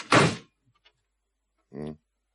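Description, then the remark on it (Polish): A heavy metal elevator door is slammed shut with one loud, sharp bang, then a short pause and a brief, faint vocal sound. “Zatrzaśnij dobrze drzwi.”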